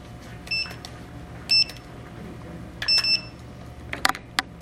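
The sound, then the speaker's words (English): A timer being set: short electronic beeps at irregular intervals as buttons are pressed, a doubled beep in the middle, then a few sharp clicks near the end over a quiet hum. “Can you hold for just a minute so we can set our timer?”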